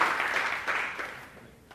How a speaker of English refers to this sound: I know you're getting a little sleepy right now. Wake up. What did you do the other day? Clap your hands. Did that work? Let's try that.